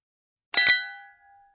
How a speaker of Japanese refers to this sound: 乾杯。